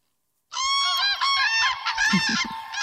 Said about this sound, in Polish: Niedawno zapowiadałaś na Facebooku, że na Suwalszczyznę przyleciały pewne ptaki. Może ich posłuchajmy?